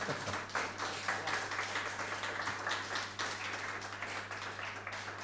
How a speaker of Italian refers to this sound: Possono applaudire, sì.